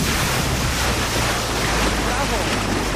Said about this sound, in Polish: Małżeńska załoga na poznańskim Kiekszu, jak warunki dzisiaj, bo słyszymy, że wiatr chyba trochę większy niż wczoraj. Zdecydowanie większy, aczkolwiek warunki no tak bardzo zmienne. Wiatr kręci,